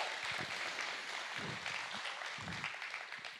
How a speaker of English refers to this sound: Clap for yourselves for that.